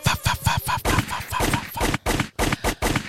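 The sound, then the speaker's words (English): Rapid gunshot sound effect: a fast, tight burst of shots at first, then a steady string of loud, sharp cracks spaced a bit wider apart, punchy throughout. “Pop, pop, pop, pop. We need that.”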